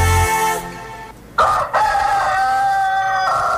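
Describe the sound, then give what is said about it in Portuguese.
A rooster crows loudly, one long, drawn-out cock-a-doodle-doo that breaks briefly before its final stretched note, with no talking. “Eita, comprei um galo cantor.”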